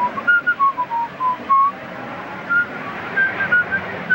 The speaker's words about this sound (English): That night, slow-moving traffic clogs the streets of Manhattan. Bill rides in a cab, whistling.